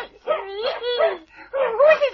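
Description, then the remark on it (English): A small stowaway dog gives three loud, high-pitched, whiny barks, each drawn out with a rising and falling yelp, with short pauses between them. “what a jolly little doggy.”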